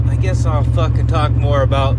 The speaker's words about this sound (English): I'll fill you in at the end, but at least you know why my truck sounds like a goddamn Chevelle or some other cooler car.